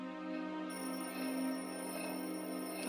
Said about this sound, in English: Your orb is ringing. Ah! A message from the boss.